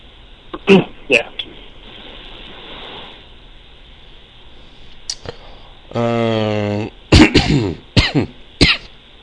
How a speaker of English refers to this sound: You sound terrible, man. I hope you feel better. No, you know what? I feel basically fine. It's the stupid coughing. Like, I wake up, and for the first couple hours that I'm awake, my throat hurts,